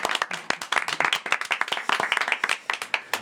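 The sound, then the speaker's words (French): A small group of people applauds themselves after finishing a little quiz game, their quick, overlapping hand claps forming a brisk, uneven patter that holds steady for a few seconds with no talking. “On peut s'applaudir, je pense.”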